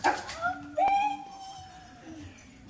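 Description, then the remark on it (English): An excited pet dog, Benny, whimpers and yips as he greets his owners coming home after being away for the day: high-pitched whines rising and trailing off, with one sharper bark-like yelp early on and faint background noise. “So what I have here is a video of our dog, Benny.”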